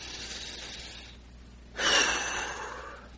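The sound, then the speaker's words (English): A long, airy breath drawn in steadily during a guided prayer meditation, then a pause, followed by a fuller, louder rush of exhaled air that slowly fades, alone with no talking. “So we now begin to come forward even more, taking another deep breath.”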